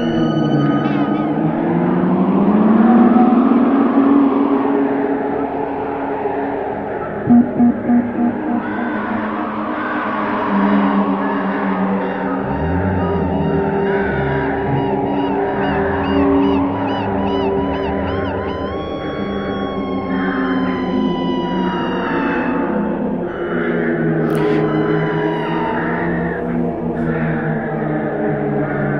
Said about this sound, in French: D'ailleurs des vrais cris de mouette dans l'enregistrement.